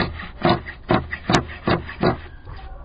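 Scissors snip steadily through dense carpet pile, about six crisp, crunchy cuts in an even rhythm, each a short rasping burst over a low background hum, with no talking.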